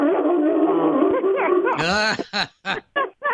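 A dog lying right beside the speaker snarls and growls close up, then bursts into loud barking: one long, ragged bark followed by four short, sharp barks in a steady rhythm.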